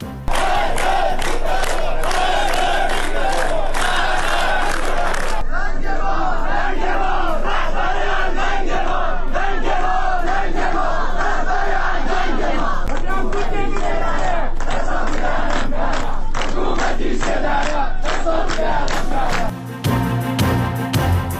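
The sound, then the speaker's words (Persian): A large protesting crowd at the funeral of Mahsa in Saqqez, Kurdistan province, Iran, chants loudly and continuously, many voices shouting together in a steady rhythmic pattern. The dense roar of voices holds throughout with only brief shifts in texture. “مراسم خاکسپاری مهسا همراه اعتراضات عمومی.”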